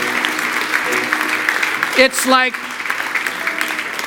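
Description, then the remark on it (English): An audience at a morning church service claps for the Lord steadily for about four seconds, a dense, even patter of many hands, with a brief voice calling out over it midway. “Can we give the Lord a hand clap this morning for his goodness?”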